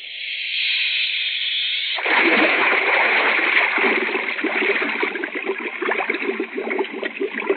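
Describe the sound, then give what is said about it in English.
A steady hiss gives way to a sudden, loud splash as a helmeted diver is put over the side into the water, followed by several seconds of churning, bubbling turbulence. “Put me over the side and watch that pump where I come up and cut your heart out.”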